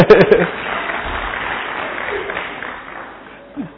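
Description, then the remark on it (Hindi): An audience claps steadily for a few seconds, a dense wash of many hands that starts loud and gradually tapers off, with a brief voice cutting in near the start. “अभी क्या नहीं करने का, कभी भी नहीं बोलना कि पत्नी बूढ़ी हो गई, बहने ताली भी नहीं बजाती है.”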